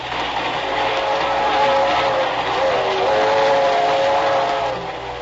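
A train heading toward the resort town of Cranston in upper New York State rolls steadily along the rails, a loud, continuous rumble and rattle with a faint whistling tone drifting through it, with no voices.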